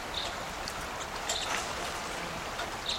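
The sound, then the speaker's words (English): A single lone male bird gives a few short, high calls spaced about a second apart, fairly faint against the steady rushing wash of a creek. “Recording with a lone male here, and I'm not sure what call type it is.”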